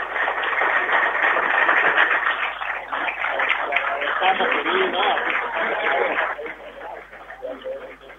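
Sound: audience applause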